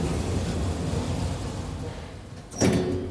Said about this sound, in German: So, wir gucken einmal von oben. Aufwärts. Tür schließt.